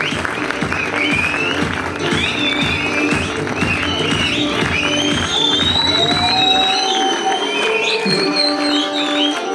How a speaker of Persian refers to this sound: با احترام فراوان میخوام دعوت بکنم از نویسنده خوب کشورمون جناب آقای علی اصغر عزتی پاک. بچه این تشویقه میتونه ادامه دار باشه، این فیلمی که دارید ببینید و قرار ببینید واسه زحماتشون هست.